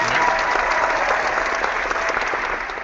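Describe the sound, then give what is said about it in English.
Loud, sustained applause from a studio audience, a dense wash of many hands clapping at a steady level for the whole stretch, no voices standing out. “So I know we already told him the applause once, but let's prod the studio audience with the electric prods that are not...”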